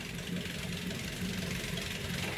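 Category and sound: machine, engine idling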